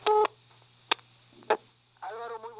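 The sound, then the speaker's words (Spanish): Telephone dialing tones of a call made from a mobile phone: a short steady two-note beep, then a couple of sharp clicks and a wavering electronic tone toward the end, all over a faint constant low hum. “te estoy marcando de mi celular.”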